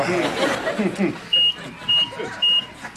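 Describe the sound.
A fire alarm sounds three loud, shrill beeps in a steady, evenly spaced rhythm, following a stretch of murmuring voices and light chuckling.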